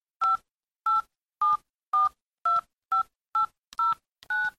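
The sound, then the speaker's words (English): Nine phone keypad tones beep one after another at a steady pace as buttons are pressed on time travel phones, each a short dual-pitched electronic blip, clear with silence in between; the last is slightly longer. “Then they pressed the green buttons on their time travel phones.”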